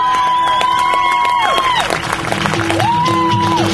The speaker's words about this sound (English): Listen to the sound of applause in a chamber full of men selling out their people as they plan their assault on the hordes of America.